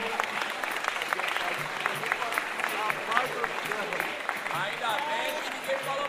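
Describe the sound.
A steady round of clapping from a crowd fills the whole stretch, dense and continuous with sharp overlapping claps, and some voices mixed in underneath.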